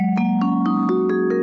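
A vibraphone plays about six soft, evenly spaced mallet strokes with the small metal disc at the top of each resonator tube closed flat over the opening, each note slightly muffled and ringing into the next, with no voices.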